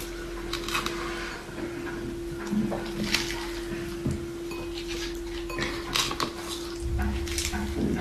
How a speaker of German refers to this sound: Mein Mixer hier ist relativ klein, deswegen drücke ich das immer mal wieder so ein bisschen nach unten.